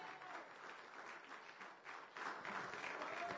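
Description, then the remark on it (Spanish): A crowd applauds steadily as an applause to the Lord, a dense wash of many hands clapping that swells slightly louder toward the end, with no voices rising above it. “De un aplauso al Señor.”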